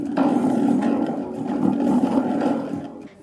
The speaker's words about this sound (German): Das ist durch eine Paketrolle, durch so einen Draht wird es dann da innen so rumgeschleudert und dann ergibt es diesen Donnerton.